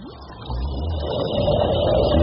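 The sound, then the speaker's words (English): A whale snoring: a deep, rumbling drone that swells steadily louder over a couple of seconds, with a low hum underneath and a faint higher tone rising through it. No voices. “I bet the whale sleeps with his mouth open. Can't you hear him snoring?”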